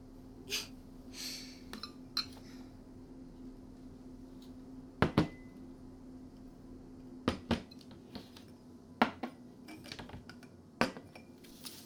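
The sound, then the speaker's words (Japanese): Scattered clinks and knocks of dishes and cutlery as piping-hot nabeyaki (hot pot) udon is served, a few sharp taps spread over several seconds above a low steady hum, with no talking. “待たせいたしました。熱々鍋焼きうどんでございます。”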